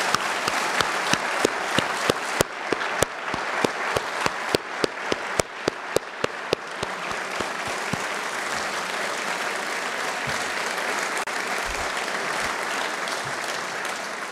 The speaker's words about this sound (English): They were guiding us throughout this day, watching over us, making sure we got to where we needed to be. Would you all stand up, and can we then thank you with your applause?